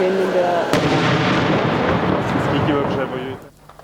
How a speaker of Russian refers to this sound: Это 15 километров от Бахмута. Там постоянные взрывы и обстрелы. Накануне по городу били из реактивных систем залпового огня «Град».